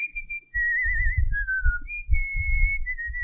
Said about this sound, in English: So you're asking, like, how would … whistle? Yeah, like, can you give us a little whistle? Yeah, I guess so.